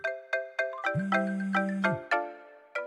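A mobile phone ringtone plays a bright, repeating electronic melody of quick plucked notes, joined midway by a sustained low buzzing tone; loud, with no voices.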